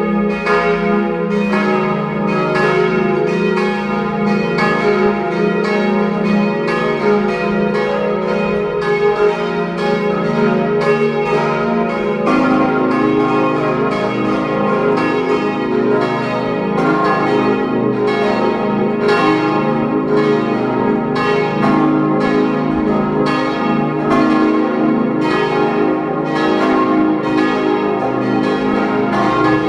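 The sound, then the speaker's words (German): Several bells of the parish church of Kirchdorf an der Krems in Upper Austria ring together at noon in a steady, overlapping peal, loud and sustained throughout with rich lingering tones; no voices are heard. “Sie hören die Glocken der Pfarrkirche Kirchdorf an der Krems in Oberösterreich.”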